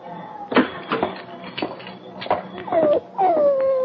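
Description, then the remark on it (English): Sam Park's dog, a mangy hound, whimpers and whines in short, pitched bursts, ending in a longer, drawn-out howl that slides downward. Faint background noise sits underneath. “Hoppy, is this the dog?”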